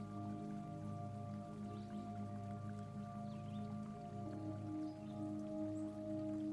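Steady trickling and dripping water from a stone fountain in a garden, a continuous soft babble under a sustained, humming musical drone with no voices.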